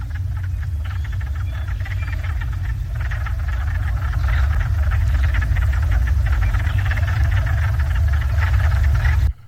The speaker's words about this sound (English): The next one is actually a chorus of wood frogs.